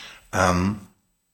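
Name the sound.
coughing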